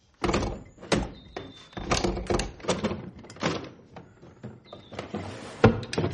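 A kitchen drawer is shoved and jammed repeatedly as a man struggles to fit a submachine gun into it, a series of irregular wooden thunks and rattling knocks, with one sharper bang near the end.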